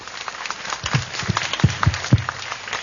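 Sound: applause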